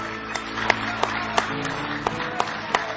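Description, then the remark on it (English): A church audience claps hands in praise during a worship service, in a steady rhythmic beat, sharp unison claps about three per second riding over a continuous wash of scattered applause, lively. “Oh, give him a big hand clap of praise.”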